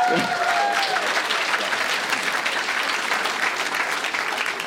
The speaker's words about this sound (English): I'm just looking for who isn't clapping at this point.